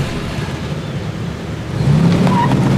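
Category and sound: vehicle, car driving off fast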